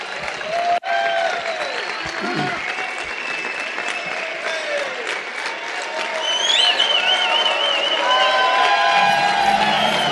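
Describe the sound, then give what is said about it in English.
A crowd claps steadily while people cheer, yell and whoop as a speaker is introduced to teach, with high shouts and whistles rising above the dense applause, which swells louder toward the end. “Keep yelling and then I won't have to talk.”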